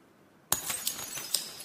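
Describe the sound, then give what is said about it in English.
A sudden, sharp crash of glass breaking after a brief silence, followed by bright tinkling and scattered clinks of shards settling, fairly loud with no voices. “And breaking of glass can indicate the end of a relationship or a friendship.”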